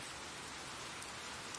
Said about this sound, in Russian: Кажется, сейчас будет небольшой дождик.